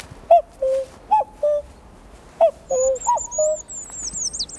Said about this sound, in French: Et quand si on fait le coucou, les enfants ne connaissent même pas le chant du coucou.